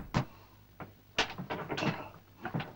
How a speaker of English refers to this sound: The man follows Evans in and moves to help him as he struggles with the door to the pilot's room.